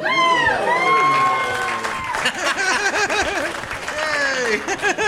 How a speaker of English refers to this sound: I love applause for something you don't even know what it is. Like, he said it like it's important, so let's applaud.